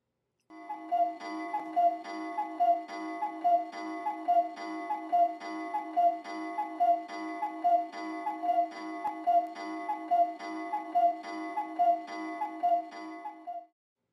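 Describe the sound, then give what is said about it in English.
A clock strikes sixteen times for 11 o'clock at night, a long series of evenly spaced, ringing chimes, each tone resonant and clear, continuing steadily for over ten seconds with no voices present. “Did the clock strike”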